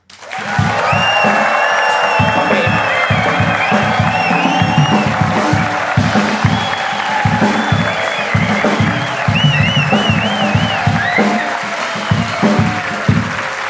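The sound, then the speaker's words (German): A live audience applauds a story steadily with dense clapping, mixed with whistles and scattered cheers, sustained and loud throughout without letting up. “der Applaus für diese Geschichte bitte nu.”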